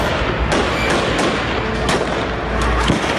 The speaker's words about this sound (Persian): این بسیجی‌ها رو می‌بینیم با تیر دارن مردم رو می‌زنن. اصلا براشون مهم نیست. ببینین.